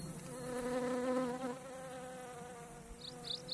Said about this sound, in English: You must always be quiet with bees. Don't touch it. Let it fly away, then it won't sting.